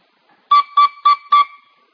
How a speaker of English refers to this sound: So you probably just heard what you would call four toots of this whistle, right? Now, right now, those four toots, you're not hearing them, right?